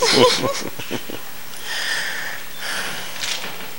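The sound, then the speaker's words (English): A woman breathing heavily: a few quick, ragged breaths at first, then two long, drawn-out hissing breaths, loud and airy with no talking. “That heavy breathing. It's like she's breathing her last.”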